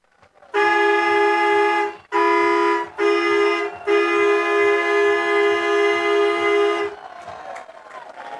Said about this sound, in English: That is gone. Walker Buchanan. A solo blast. It is now 15-6 and a 9-run bottom of the eighth inning. Cue …, cue the horn here at Winterfield.